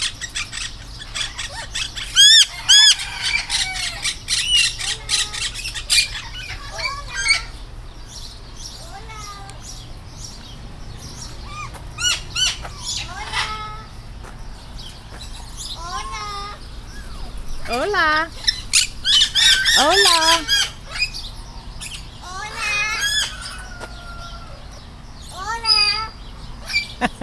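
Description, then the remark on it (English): Parrots squawk and call in the morning in repeated bursts of harsh, rising shrieks and chattering whistles, fairly loud, with brief pauses between outbursts over a steady low background hum. “There's some parrots talking to us this morning.”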